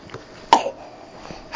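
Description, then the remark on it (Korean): A child gives one short, sharp cough midway through, moderately loud, followed by a brief rasping tail before it goes quiet again. “어, 기침하네.”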